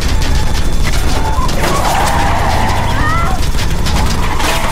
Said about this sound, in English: His face bleeding from a bullet wound, Big Daddy fires his high-powered machine gun. The armored car turns as bullets bounce off its shell.